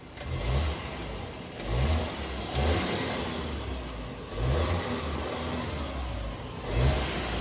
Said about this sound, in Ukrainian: Все, ми тільки чуємо звук. Все, хорош. Ми тільки чуємо звук двигуна. Тут все добре.